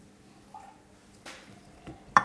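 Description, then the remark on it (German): Someone takes a quiet sip of Pfeffi Mexikaner from a glass: a faint slurp and a couple of soft, wet swallowing noises, then a brief sharp clink of glass at the end. No one speaks. “Ja, ich nehme mal einen Schluck hier.”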